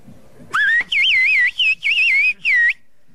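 Loud, piercing human whistling in four or five quick bursts, its pitch wavering and sliding up and down like speech melody, as in a whistled language, with short pauses between phrases. A man working in fields high above a village whistles to communicate over long distance in a high-pitched whistled language called bird language.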